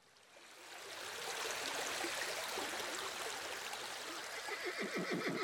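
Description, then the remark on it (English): Loud, steady rushing water of a clear brown river, where three horses stand with the water rushing past over their knees, fills the whole recording, and near the end a horse lets out a fluttering whinny over the flow. “A little later, there we all are, all three horses standing in the clear brown river, with the water rushing past over the horses' knees.”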